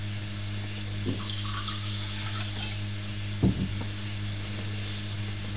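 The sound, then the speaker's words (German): Water pours steadily into a cup, a continuous trickling splash with a faint background hum and a couple of brief knocks partway through. No one speaks. “Da möchtest du dein Wasser rein?”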